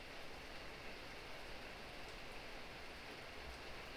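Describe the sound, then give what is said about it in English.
Steady pitter-patter of rain falling on a surface, a soft continuous hiss of many small drops with no pauses, moderately loud, with no voices. “So just listening to the pitter-patter of the rain as you breathe with your belly.”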